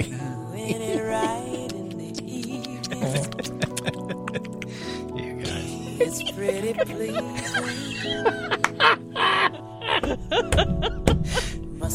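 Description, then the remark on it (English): Lots of quick, high little chirps flit about in close succession, layered over a steady tonal hum, with a few soft breathy sounds mixed in. “Wait, let's hear the little chirping sounds.”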